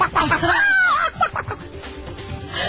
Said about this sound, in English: Well, unfortunate accident. It looks like a truck with chickens had tipped over right there. So we got a lot of little Schwarzies running around the road, didn't we?